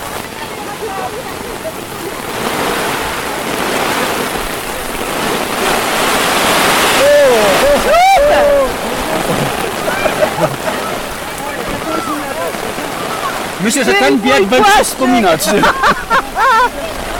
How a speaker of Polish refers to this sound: Wydaje mi się, że to już jest taki deszcz, że nie robi różnicy tak naprawdę.